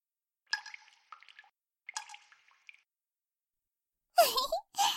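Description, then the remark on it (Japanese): A voice softly imitates candle wax dripping with two short, quiet bursts of mouth sounds, then a pause followed by two louder, breathy gusts. “はーい、ポタポタ、ポタポタ。”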